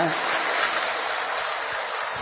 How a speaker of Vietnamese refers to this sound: Cho nên chúc mừng các vị Phật tương lai, một tràng pháo tay thật to, thật giòn giã cho tỉnh ngủ nữa.